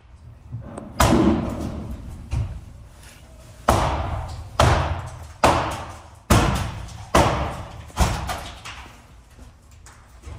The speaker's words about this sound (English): it looked like a library inside of that building, and they heard a loud bang on the door.